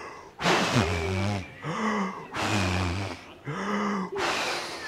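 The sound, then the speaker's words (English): Several voices imitate wind and snoring at the same time, making breathy, whooshing wind sounds mixed with low, rumbling snores, in four long exhalation-like bursts separated by brief pauses. “Big snore, no, big wind noise. Okay, now do both at the same time.”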